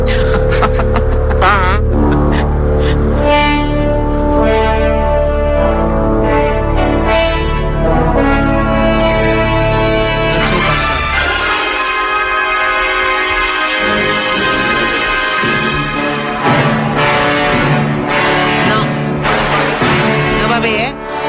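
Loud orchestral film score music written for the opening of a film plays throughout, full and dense with sustained, layered chords. The low end briefly thins out midway before the heavy, rich texture returns.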